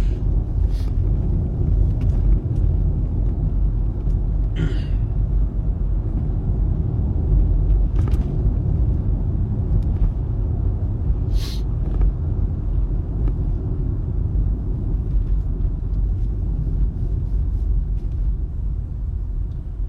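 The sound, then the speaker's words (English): Steady low rumble inside a car being driven on a hot day, continuous road and engine drone filling the whole stretch, with a few faint brief clicks and rattles on top and no talking. “Okay, it's too hot in this car.”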